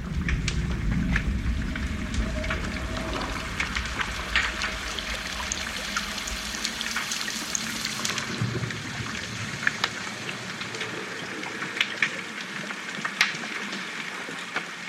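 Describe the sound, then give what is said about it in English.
Underwater recording, with dolphins present, of a heavy low boat-engine rumble that cuts out about halfway, over constant dense crackling and sharp clicks, with faint steady tonal whines throughout; no voices. “There's lots of sonic artifacts from the boat itself.”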